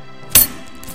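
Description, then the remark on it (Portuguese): A single quick metallic jingle of a large bag of coins given by a lady to a shoemaker in his shop, fairly loud, with quiet background before and after. “Desta vez, a senhora deu ao sapateiro um grande saco de moedas.”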